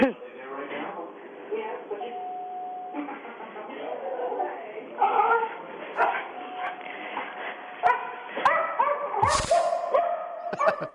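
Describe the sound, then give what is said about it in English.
A dog barks and yips in a string of repeated, tonal calls, sounding thin and muffled as if played over a phone line, with a sharp burst of noise near the end. “I love dogs.”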